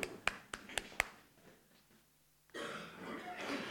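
A few sharp, evenly spaced claps or taps, a short lull, then a dense burst of applause breaks out and carries on, steady.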